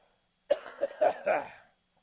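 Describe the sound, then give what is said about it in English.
A fairly loud burst of throat clearing with a few quick rough coughs strung together, lasting just over a second before falling quiet. “But excuse me while I clear my throat.”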